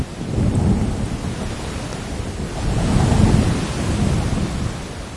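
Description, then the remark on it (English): Steady evening rain pours down in a dense, continuous hiss, with low rumbling swells that suggest thunder rolling beneath it. No voices are present. “Still, there's the sound of evening rain.”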